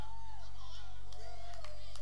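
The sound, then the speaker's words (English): Tepid audience clapping: a few scattered, light claps rather than full applause, with faint crowd murmur and a brief whoop mixed in. “Oh, I knew I'd get some tepid clapping there.”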